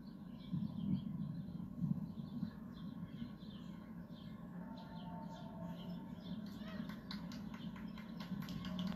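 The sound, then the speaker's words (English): Birds chirp and twitter steadily outdoors at 81st, Columbus and Central Park West, over a low rumble of city ambience and faint voices, with a patter of crisp taps joining near the end. “Listen to the birds.”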